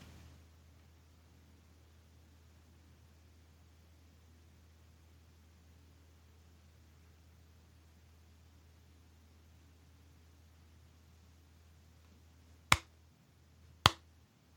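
slow clap

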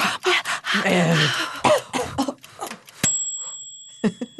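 coughing

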